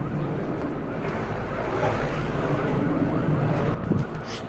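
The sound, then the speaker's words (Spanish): A tractor engine, heard from a patio, drones steadily, a continuous low rumble mixed with a broad, windy hiss that holds an even loudness throughout, with only a brief bump near the end. “¿Se escuchó el del tractor?”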